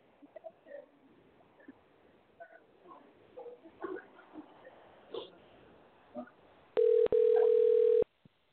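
A loud, steady telephone dial tone begins near the end as a guest is called back on the phone after a technical glitch, with a brief break just after it starts, then holds for about a second. Faint murmuring and scattered noises come before it.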